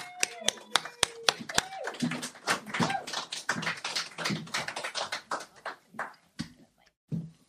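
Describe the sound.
Audience applause: a few sharp, separate claps at first, then a dense, steady patter of many hands clapping together, with some voices mixed in before it thins out at the end.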